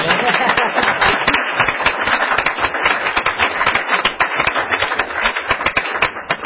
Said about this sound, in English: And I'd like to ask for a round of applause for this.